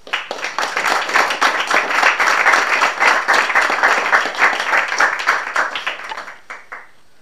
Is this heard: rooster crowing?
no